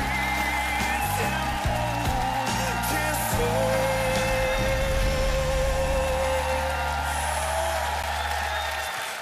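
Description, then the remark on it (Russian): An audience applauds a performer steadily for about nine seconds, a dense crackling wash of many hands clapping at even loudness, with low sustained tones humming underneath. “Перестань, посмотри, как ему аплодируют, как хорошо выступал, оригинально.”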